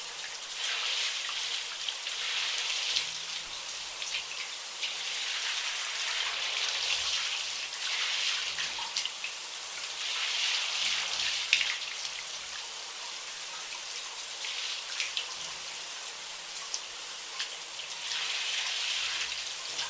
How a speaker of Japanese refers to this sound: 首も肩周りもすっかり綺麗になったね。じゃあシャワーで泡を流していくね。